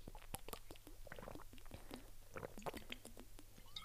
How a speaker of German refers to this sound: Also ich muss sagen, ich habe nicht richtig Hunger, aber mein Magen knurrt sehr doll.